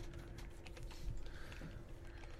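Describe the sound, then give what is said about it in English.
Quiet, rapid clacking of fingers typing on a computer keyboard, irregular keystrokes tapping steadily over a low background hum, with no one speaking. “Just got real quiet while I started typing.”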